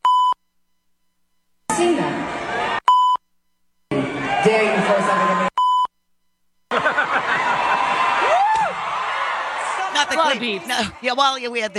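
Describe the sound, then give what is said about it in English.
Three short, loud censor bleeps cut in between stretches of a singer talking on stage during a concert performance over a noisy, cheering crowd, with scattered laughter toward the end. “Amount of beeps in there, but she basically said, you throw something at me, I'm going to effing kill you.”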